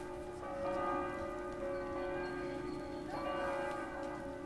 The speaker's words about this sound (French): Vous entendez ces cloches?